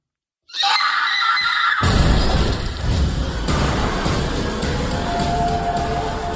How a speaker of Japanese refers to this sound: なんかねキャーから始まってこのホラーっぽい予告編、なんかこういうの見たらこう苦手な方はよりね敬遠してしまうと思うんですけど